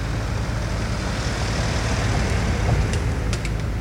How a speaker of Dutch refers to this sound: Kon jij bepalen waar die auto vandaan kwam? Was die links of rechts van je? Kwam die van voren en ging die naar achter? Of juist andersom? In een mono-opname is het onmogelijk om te bepalen waar het geluid vandaan komt.